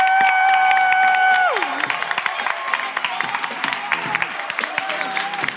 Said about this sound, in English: Please give a big round of applause for the ARIA winning ….